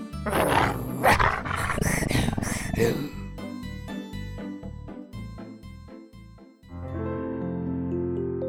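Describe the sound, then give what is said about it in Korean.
A loud, harsh growl from a very angry dog searching for a cat snarls for about three seconds, then gives way to short, punchy musical stabs and a sustained chord, with no talking. “개가 잔뜩 화가 났어요.”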